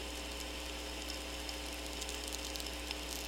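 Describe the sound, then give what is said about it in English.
Steady radio static of VLF sferics and tweeks, picked up with a magnet-wire VLF antenna and created by lightning around the world bouncing between the Earth and the ionosphere: a dense crackle peppered with sharp irregular clicks over a constant low electrical hum, fairly quiet and with no voices. “The clicking and crackling sounds in the background are called sphericks and tweaks, and they are created from lightning all around the world bouncing between the Earth and the ionosphere.”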